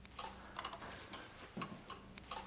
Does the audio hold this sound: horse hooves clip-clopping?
no